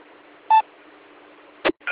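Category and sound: signal or alarm, radio repeater beep tone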